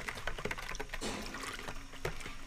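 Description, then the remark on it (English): Hot water splashes and gurgles as it is poured steadily into a pitcher, a continuous liquid rush with a few small clinks and bubbling bursts along the way, as about a cup of sugar is added and stirred until it dissolves. “He prepares a pitcher of hot water and pours in about a cup of sugar and stirs it until it dissolves.”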